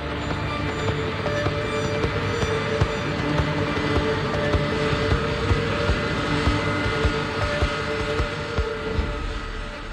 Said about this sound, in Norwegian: Nå ser han avkjøringen litt lenger fremme til venstre, og begynner å svinge skarpt, mens de ser KLM-flyet dundre mot dem.